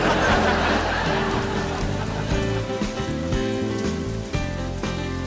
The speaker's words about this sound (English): Now I'm wet. God, this is all your fault. What? The rain is my fault? Why is the rain my fault?